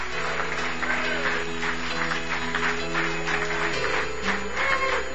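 A crowd claps loudly and continuously, a dense, steady wash of applause over sustained musical tones underneath, with a few scattered voices mixed in.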